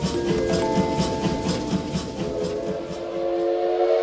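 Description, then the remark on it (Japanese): A local train of the Seiza Line bound for Hinode rolls steadily along the rails, its wheels clacking in a quick, even rhythm, while sustained whistle-like tones ring over the rumble. It sounds fairly loud, with no voices. “この列車は星座線鈍行日の出行きです。”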